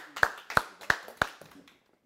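An audience applauds: four sharp, evenly spaced claps ring out over a scattered bed of softer clapping, which thins and fades away after under two seconds, leaving quiet.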